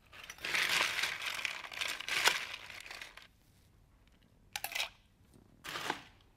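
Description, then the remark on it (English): Ice cubes clatter and crunch into a metal cocktail mixing tin in a long rattling pour, followed by a pause and two shorter bursts of clinking ice. No one speaks. “All right, now go ahead and add some ice into your mixing tin.”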